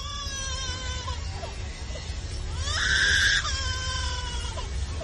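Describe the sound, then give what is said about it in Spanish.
A lyrebird, a bird that lives in Australia, imitates an infant's cry with wailing, harmonic calls that rise into a loud, sustained sob midway, then fall back to shorter whimpering cries over a low background rumble. “Pues no es un niño llorando. ¿No? Sí, un leopardo, sí. El que tiene esto en la cabeza. ¿Qué pardo? Es un ave lira, un pájaro que vive en Australia.”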